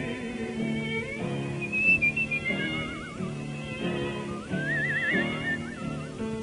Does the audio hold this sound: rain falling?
no